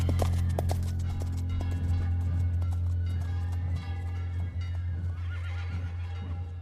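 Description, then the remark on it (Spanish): Horse hooves clip-clop in a steady rhythm, with a horse neighing and snorting over a constant low rumble. No one speaks. “Ole los caballos buenos.”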